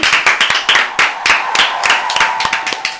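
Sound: applause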